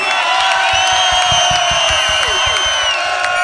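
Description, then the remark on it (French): An audience at an evening live music show cheers and whoops while applauding itself. A dense wall of shouting voices with rising and falling yells runs over rapid, even clapping. “Applaudissez-vous, vous êtes wicked.”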